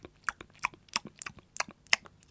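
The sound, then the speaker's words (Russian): Loud, wet chewing-gum chewing by several people in a quiet train compartment moving at about 60 km/h, with sharp smacking sounds repeating in an irregular rhythm about every quarter second, and no talking. “Единственное, что вы можете услышать в таком тихом купе на скорости 60 км в час, это чавканье африканцев.”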